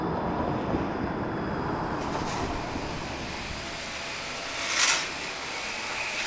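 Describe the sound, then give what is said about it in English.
Retail staff vacuum a Cozy store at the end of the day; the vacuum cleaner runs with a steady, continuous roaring whir, even in volume, with a brief hissing surge near the end and no one talking. “A little sweep here, a little vacuum there, making sure that tablets are charged and ready for customers tomorrow.”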